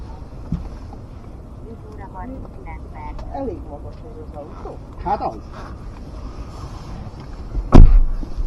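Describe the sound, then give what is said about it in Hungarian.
Wind buffets the microphone with a steady low rumble throughout, outdoors in Gyál at 22 degrees after people get out of a car, running beneath people talking, with a brief sharp thump near the end. “Vágtunk egyet, flexelés, kutyaugatás, szél, gyál, 22 fok”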